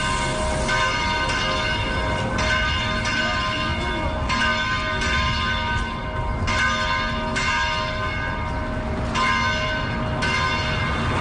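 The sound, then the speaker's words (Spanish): Bells of the cathedral, the co-cathedral and other churches of the Diocese of Osma-Soria, Spain, peal continuously in celebration minutes after the white smoke announcing the election of the new pope, with repeated strikes ringing out in an overlapping, rhythmic cascade that stays loud and steady throughout, with no voices. “Una vez conocida la noticia, minutos después de la fumata blanca, las campanas de la catedral, la concatedral y de muchas otras iglesias repicaban en señal de gozo.”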